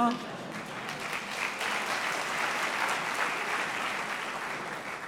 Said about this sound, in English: Aguego, you may applaud.